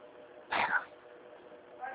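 A single short cat meow, fairly loud, rising out of a low, steady background murmur and fading quickly.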